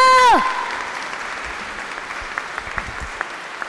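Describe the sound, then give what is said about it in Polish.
A brief falling tone gives way to steady audience applause, a dense wash of many hands clapping that holds at an even, moderate level, with a few sharper individual claps standing out. “Wielkie brawa!”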